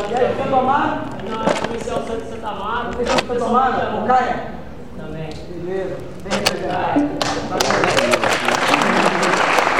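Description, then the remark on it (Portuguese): A crowd breaks into applause for a man who sang rap, a dense wash of clapping that builds to loud over the last few seconds, after a stretch of people talking with scattered individual claps. “Aí, eu queria pedir uma salva de palmas pro meu compadre que cantou rap ali, né?”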